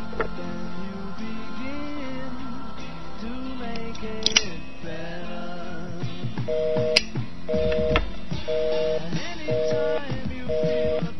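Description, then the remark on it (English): Phone line tones sound as a call connects: five short, steady two-note beeps repeat at an even pace over a busy, murky background of muffled sounds. “Please hold while we connect your call.”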